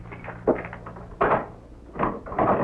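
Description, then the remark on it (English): A door is unlocked with keys and pushed open: a few sharp metallic clicks and clunks, then a louder thump and rustling rattle, with no voices. “Well, now, how many of your boyfriends have keys to...”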